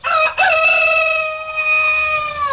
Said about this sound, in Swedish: Onomatopoetisk. Ljudhärmande. Om ord som avser att härma naturljud, djurleten och så vidare. Exempel, barnspråkets vov, vov. Ja, det var ju likt. Kuckeliku.